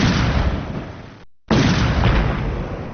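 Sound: explosion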